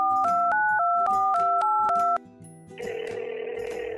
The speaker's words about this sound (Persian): واسه همین گوشی رو برداشتم و به چند تا آگهی فروش آپارتمان توی تهران زنگ زدم.